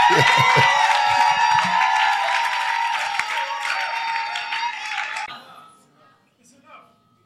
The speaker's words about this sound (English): Yes, shout. Clap your hands and let's receive Bishop to bless us this afternoon.